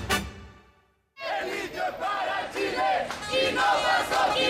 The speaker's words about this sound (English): Hundreds of protesters are marching through the streets of Santiago de Chile. Lithium for Chile, not for Soquimich, they are shouting.